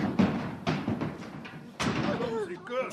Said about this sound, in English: Alice jumped up and knocked over the jury box. It was full of animals and they all fell out.